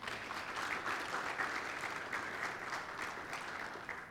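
An audience applauds steadily, a dense, sustained wash of clapping that holds at an even level for several seconds before easing off slightly at the end.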